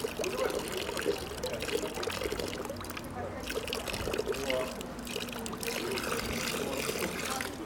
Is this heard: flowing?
yes